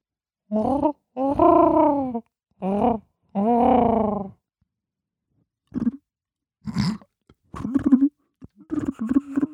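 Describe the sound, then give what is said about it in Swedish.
A voice imitates a stock dove's call with four low, droning coos in a steady rhythm, the second and fourth drawn out longer, followed by scattered short vocal sounds. “Har du hört min skogsduva? Ja, okej. Kör den då.”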